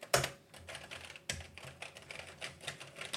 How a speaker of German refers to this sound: So muss sich eine Tastatur anhören.